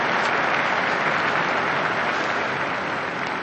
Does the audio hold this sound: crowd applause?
yes